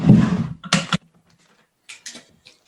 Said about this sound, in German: Also ich öffne jetzt hier dieses Päckchen. Genau. Hier gerade eine Schere.